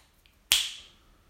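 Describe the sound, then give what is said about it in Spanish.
A single sharp finger snap cracks out, bright and crisp, ringing briefly before fading, with a faint tiny click just before it and no talking. The snap is the cue to start counting aloud backward from 300 in steps of three. “Cuando escuches el chasquido, empieza por el número 300, de 3 en 3, hacia atrás.”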